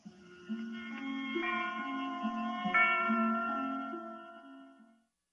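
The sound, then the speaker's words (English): A brief, dramatic closing theme of the CBS radio drama Suspense plays: sustained, reverberant chords shift a few times over a low bass line, then the music swells slightly and fades out. No one speaks. “I love the theme music on Suspense, you know?”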